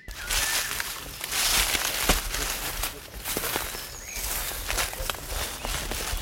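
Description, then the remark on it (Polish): Footsteps crunch and crackle over dry forest litter in an extremely dry forest, in a steady walking rhythm, each step a bright, brittle rustle of twigs and leaves, with faint bird calls in the background. “ale drodzy państwo, naprawdę, także nasz radiowy mikrofon zarejestrował, że w lesie jest tak szalenie sucho i to po prostu słychać.”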